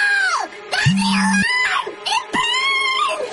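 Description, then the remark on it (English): A ghost's loud, eerie shrieks and wavering wails sweep up and down in pitch over a few seconds, layered, with a brief low droning buzz partway through, ending in a final furious shriek as the ghost dissipates into mist. “With a final furious shriek, the ghost dissipates into a cloud of mist, the sound of distant laughter echoing as he fades away.”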